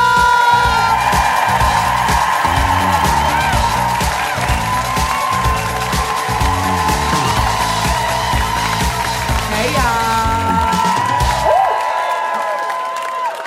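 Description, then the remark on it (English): A loud crowd at a New York comedy show cheers and applauds steadily for about twelve seconds over rhythmic walk-on music with a thumping beat as comedian Rebecca O'Neal is introduced, then the noise quickly dies away. “You guys, clap it up for yourselves.”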